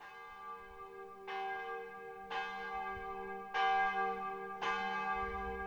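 A church bell rings for matins, tolling four slow, evenly spaced strokes, each loud clang blooming into a rich, humming resonance that lingers until the next strike. No voices are heard.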